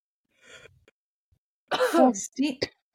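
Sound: coughing and throat clearing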